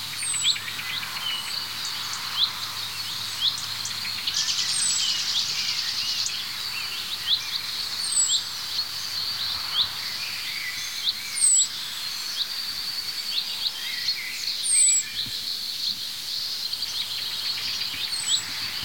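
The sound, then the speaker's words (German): A blackbird gives sharp tuck-tuck alarm calls, repeated at intervals over a steady outdoor chorus of high thin chirps and buzzing insects, with no one speaking. “Wir hören das Duck, Duck, Duck der Amsel.”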